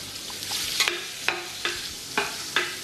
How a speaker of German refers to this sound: Wir beginnen da als erstes einmal mit der Kolbsachsen, dann die Salzen, Pfeffern und ein bisschen Muskat dazu. Dann haben wir das Kolbsachsel in Öl schön rundherum anbraten, dass wir schöne Farbe kriegen.